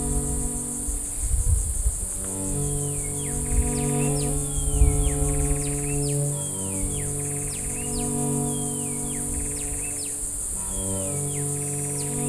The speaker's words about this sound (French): Et bien sûr, cette dernière ambiance d'insectes et d'oiseaux.